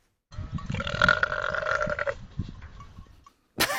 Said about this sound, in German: wir hören trotzdem nochmal den Rülpser, weil er wirklich schön ist, finde ich